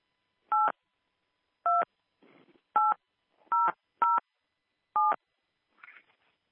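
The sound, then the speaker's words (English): Six short, crisp touch-tone beeps from a phone keypad as a PIN is entered to start recording a conference call, each a steady dual-pitched tone pressed at uneven intervals, with faint rustling between some presses. “Please enter your PIN followed by pound.”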